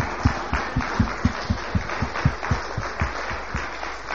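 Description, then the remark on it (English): A church audience gives a clap offering to Jesus, clapping together in a steady rhythmic beat, sharp regular claps roughly every quarter second over a dense wash of scattered applause, with no talking. “If you are happy that you belong to Jesus, give him a clap offering.”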